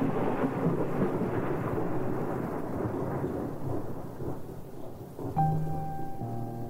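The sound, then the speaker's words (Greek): A thunderstorm with a long, rolling rumble of thunder over steady rain noise, loud, fading slightly before sustained musical tones come in near the end. “Όμως η μπόρα καραδοκούσε.”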